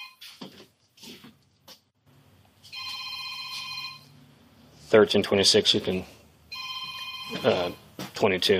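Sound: telephone ringing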